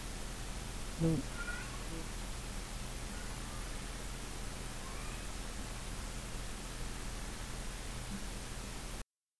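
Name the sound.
cat meowing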